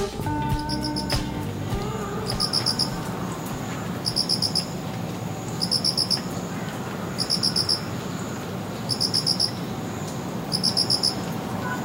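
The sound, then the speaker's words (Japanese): Autumn crickets trill in regular pulsed bursts, each a quick cluster of bright chirps repeating about every one and a half seconds over a soft, steady night-time background. “もうね、コロコロリンとね、チロチロリンですよ、うん、もうこの間までね、もう朝5時にもうセミの声で起こされて、もうたまらんと思ってたのに、うん、もう今朝はこれ。”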